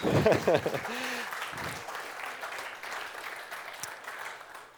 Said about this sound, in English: Let's give her a proper clap as she comes. That was a bit sleepy.